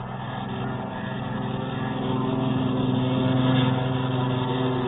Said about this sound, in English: The Colonel's flight took off first.